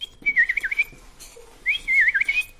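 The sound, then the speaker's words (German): A person whistles an imitation of a bullfinch call: two wavering, fluting phrases around a steady pitch, separated by a brief pause, fairly loud with no talking. “Die Vögel der Heimat. Der Dumpfaff. Der Dumpfaff pfeift so.”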